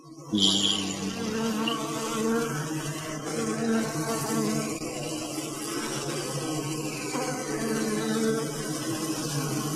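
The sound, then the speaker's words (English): A dense, continuous drone of buzzing bees, many overlapping wingbeats humming steadily and fairly loud, with no voices. “Here's the sound of the bees.”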